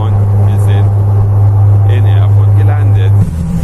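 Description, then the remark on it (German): Loud, steady roar of a small airplane's engines on strong reverse thrust as it brakes on the runway just after touching down, a deep constant drone that shifts lower near the end, with faint voices underneath. “Es gibt eine ganz starke Bremsung mit dem Umkehrschub.”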